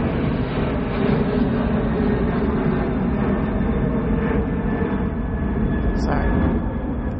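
A loud, steady roar of an airplane flying overhead fills the whole recording, a dense, continuous rumble that holds at an even level without fading.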